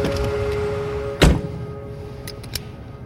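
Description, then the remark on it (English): A car door shuts with a single solid thunk over a low idling engine hum, followed by a couple of faint clicks and rattles shortly after. “Get in the car.”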